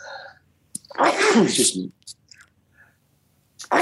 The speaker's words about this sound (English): Bless you